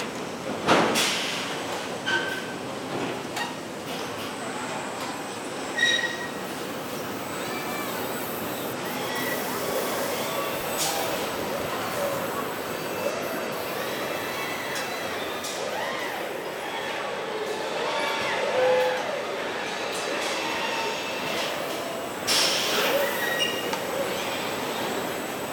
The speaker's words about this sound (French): Entendez-vous le langage des machines ? Nous sommes à l'usine Georges Besse de Renaud-Douai, où les robots, les hommes et les voitures travaillent ensemble.